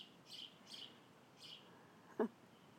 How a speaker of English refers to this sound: You got some real bird song. Yeah. It's like I've said before, I think that there's a family in that tree.